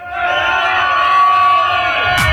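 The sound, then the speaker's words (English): A crowd roars and cheers for the DJ in a loud, sustained wall of voices, with scattered shouts and whoops rising through the steady din. “Where's the noise for the DJ”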